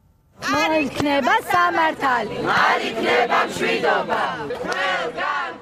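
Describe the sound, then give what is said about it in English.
A crowd of anti-government protesters shouts and chants together outside the constitutional court in Batumi, a Black Sea town in western Georgia, loud, strained voices rising and falling in rough unison without pause for several seconds. “A group of protesters are shouting outside the constitutional court in the Black Sea town of Batumi, western Georgia.”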